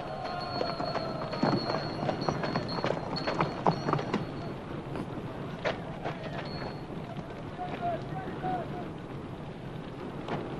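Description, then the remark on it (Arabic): Horse hooves clip-clop in a steady, uneven rhythm throughout, over a busy outdoor background with faint murmuring voices. “اجلب لي حصاني.”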